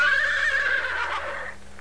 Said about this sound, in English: Where's the horsey? What's the horsey say? Nay. This is a horse.